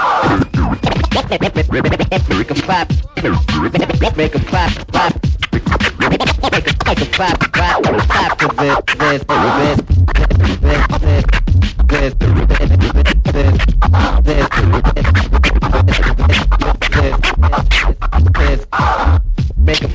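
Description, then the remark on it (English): Turntablists performing live, rapid record scratching jerking back and forth in choppy, stuttering bursts over a steady beat, loud and continuous, with a heavier bass thump entering halfway through. “These are turntablists.”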